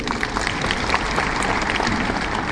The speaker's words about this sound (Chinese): 啊，我们先再次掌声感谢刘院士。